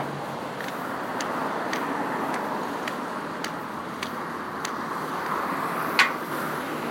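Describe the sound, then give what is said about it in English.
Steady, moderate traffic noise from a side street while waiting to cross it, a continuous wash of road hum, with a series of sharp, evenly spaced clicks ticking over it and one louder click near the end. “It's a side street, so it's not too bad.”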